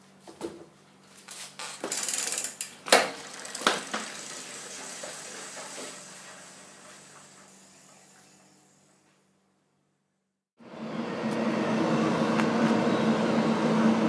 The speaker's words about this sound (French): Tu entends le moteur là ? Ouais. Tu le fais quand il s'est arrêté ? Ouais. Donc on attend qu'il se relance une fois. On fait action. Et puis il va se mettre en route, puis dès qu'il s'arrête, tu lances ta phrase, d'accord ?